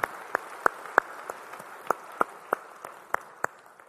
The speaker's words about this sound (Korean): 우리 찬양하신 주님께 영광의 박수 올리겠습니다. 할렐루야.